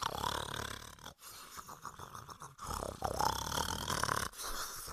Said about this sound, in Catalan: Llavors, la mare cabreta, amb la petita al costat, se'n va anar al bosc a buscar el llop i el van trobar roncant a la vora del riu.